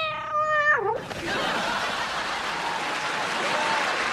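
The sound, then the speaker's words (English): A single drawn-out cat meow in a promo for the TV show Bleep My Cat Bleeps, clear, sliding down in pitch and cut off after a second by a steady wash of noise, like applause or crowd clatter, lasting to the end. “Bleep My Dad Bleeps, Fridays at 8, followed by an all-new episode of Bleep My Cat Bleeps.”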